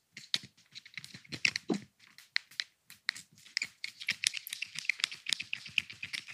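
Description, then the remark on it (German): Fingers fiddle with a gifted fidget toy nicknamed a "Knubbelbubbel", producing a steady stream of quick, irregular clicks and crinkly, crackling rustles that rise and fall in loudness, with no talking. “Ich sitze immer an meinem Schreibtisch und dann führe ich Gespräche und mit meinen Fingern muss ich irgendwas machen.”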